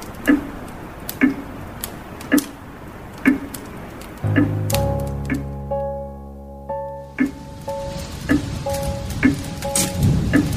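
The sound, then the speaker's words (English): Steady, soft rain patters in the background while a clock ticks at an even pace, joined midway by a few sustained low musical tones. No one speaks. “It rains more often in Portland than you might think.”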